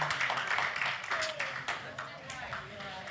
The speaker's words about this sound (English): He's going to take a nap too, and we can cheer him, clap him on, go ahead and do that.